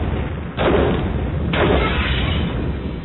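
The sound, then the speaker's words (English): Two heavy explosions go off about a second apart, each a loud booming blast that fades into a constant low rumble and roar, with no one speaking. “She was almost done strapping herself in when the explosions went off.”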